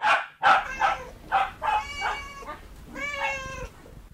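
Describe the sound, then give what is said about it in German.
A dog barks several times in quick succession, fairly loud, followed by drawn-out cat-like meows; no one speaks. “Ja, Hund und Katze, das sind die mit deutlichem Abstand beliebtesten Haustiere der Deutschen.”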